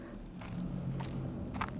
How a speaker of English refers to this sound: Hang on. I'm walking to the back.